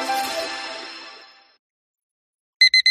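A bright, ringing tone fades out over a second or so, then after a short pause an alarm clock starts beeping in three quick, loud electronic pulses.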